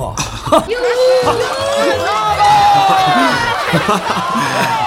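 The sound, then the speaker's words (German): A large audience breaks into loud, sustained applause mixed with cheering and whooping voices, a dense roar of clapping that carries on steadily without a pause. “Doch als das wütende Knurren des Ungeheuers verstummt war und das Licht wieder heller wurde, brach tobender Beifall aus.”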